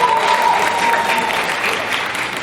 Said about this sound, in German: Patrick Keller, meine Damen und Herren. Großen Applaus für dich.